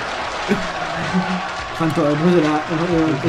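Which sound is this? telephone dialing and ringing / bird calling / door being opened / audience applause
audience applause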